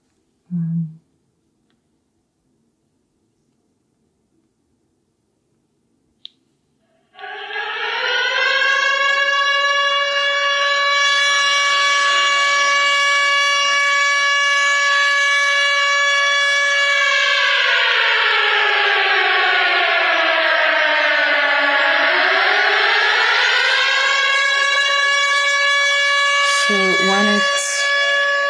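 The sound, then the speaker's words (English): A Ukrainian air raid alarm alert plays as a sound on a phone, a loud, harmonic siren wail that holds steady for about ten seconds, dips lower in pitch, then climbs back up, lasting roughly twenty seconds. “It's called Povitryana Trevoha. Then canceled of air alarm. Then air alarm.”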